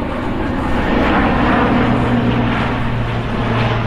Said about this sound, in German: Aus den Boxen dröhnt gute Laune-Musik, die manchmal sogar den Lärm einer aufsteigenden Transportmaschine übertönt.